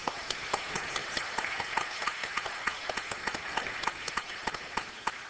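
A group of people at a church service applauding steadily to congratulate senior members, with dense overlapping claps and a few sharper individual claps standing out throughout, fairly soft overall and with no voices.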